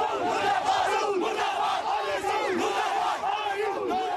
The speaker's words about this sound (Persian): صدها مسلمان شیعه در جاده های سرینگر مرکز کشمیر تحت کنترل هند در حالی که عکس‌های شیخ نعم را حمل می کردند فریاد اعتراض علیه عربستان سعودی سر.